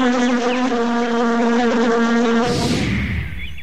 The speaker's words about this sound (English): Time to hitch a ride on a busy bee, I think. Yay!